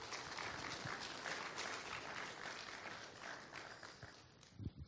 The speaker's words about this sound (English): I just want to call up a couple students in the program right now. Why don't we give them an applause?